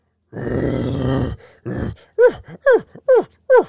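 A bull elk call: a long, rough, harmonic bellow, then a short grunt and four evenly spaced, downward-sliding chuckling yelps, loud and with no talking.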